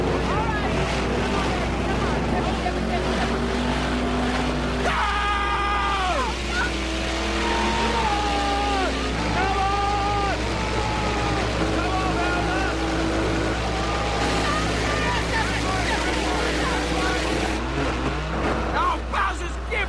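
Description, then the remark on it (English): Tractor engines rev loudly and steadily at the start of a sudden-death round of a tractor contest, their pitch repeatedly rising and falling over a constant low rumble, with a wind-like rush of noise throughout. “Start your engines!”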